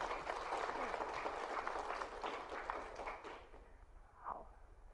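An audience applauds steadily with dense, crackling claps for about three seconds, then the clapping thins out and fades into a quieter room with a faint voice near the end.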